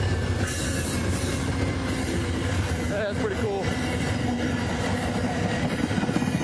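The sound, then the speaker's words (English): An Amtrak passenger train on the eastern track rushes past about 12 feet from a man running beside it in the morning, a loud, steady roar of rolling wheels and rail noise with a brief squeal, while the man briefly speaks over it. “So the train is on the eastern track, so that makes me about 12 feet from this train that's coming up behind me.”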